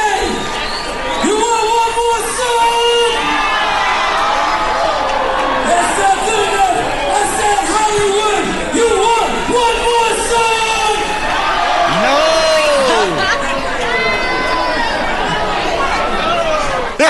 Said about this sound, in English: They're all yelling, no! How awesome is that? That's the best.